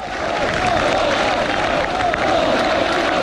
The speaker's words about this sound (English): That's people in Warsaw cheering for Donald Trump today. The president was giving a speech in Krasinski Square near the site of the 1944 Warsaw Uprising against the Nazis.